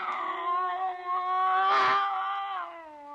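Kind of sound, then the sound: animal, cat yowling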